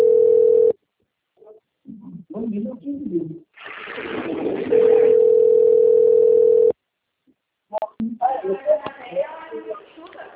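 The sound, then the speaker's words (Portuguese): A steady, mid-pitched telephone dial tone sounds briefly, then again for about two seconds amid muffled line noise, with people talking between and after the tones. The call is answered by Santander Consignados. “Ligou o telefone.”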